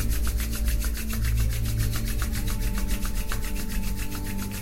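Palms rubbed together vigorously until hot, in quick, steady back-and-forth strokes, a brisk rhythmic swishing that carries on evenly throughout over a low, soft background hum.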